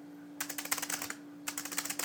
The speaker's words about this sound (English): On the Braille note, I'll type in the words hello world and a sentence using the Braille keyboard.